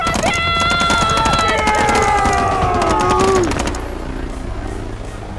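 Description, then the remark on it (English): Loud, rapid bursts of rifle and machine gun fire aimed at a helicopter rattle for several seconds over a high, whining tone that slides downward, then the shooting stops abruptly, leaving a low rumble. “Grab a rifle off the squad leader and fire at the helicopter!”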